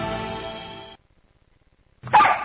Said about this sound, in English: I guess I better let the dog in.